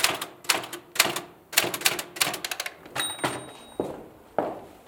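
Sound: typewriter keys typing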